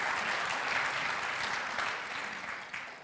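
A church audience applauds rescuers such as helpers and street pastors, many hands clapping steadily in a dense, continuous wash for about three seconds, tapering only slightly toward the end with no voices heard.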